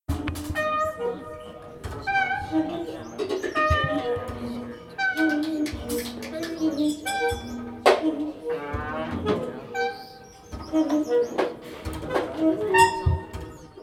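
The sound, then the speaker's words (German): Many small wooden slide whistles, handed out to a concert audience and played by pulling them out and pushing them back together, chirp and warble at once, pitches sliding up and down in a busy, overlapping chorus imitating birdsong, fairly loud and continuous throughout. “Zog man diese aus und schob sie wieder zusammen, entlockte man ihnen Vogelgezwitscher.”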